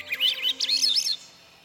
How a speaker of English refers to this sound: Do you ever wonder where birds sleep? Let's listen as the last bird sounds of the day recede into nightfall.